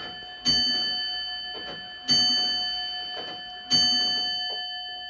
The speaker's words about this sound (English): So that's the Somerset cider clock. It was made in around about 1740 when there was a cider tax introduced to pay for the Seven Years' War in America, where we chased the French out of Northern America.